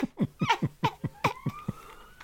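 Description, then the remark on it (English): A police siren wails faintly, its steady rising tone emerging partway through beneath a string of quick, breathy vocal bursts. “Can everyone else hear the police siren?”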